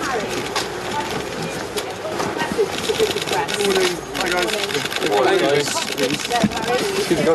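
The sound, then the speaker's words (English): A dense flurry of camera shutters clicks rapidly and continuously, overlapping into a mechanical chatter, while voices talk and call out in the crowd, as cameras go off when Prince Harry gets out of a car in London for a court case against the Daily Mail. “Do you hear all that clicking? That is insane to me. Those are all the cameras. All the cameras going off.”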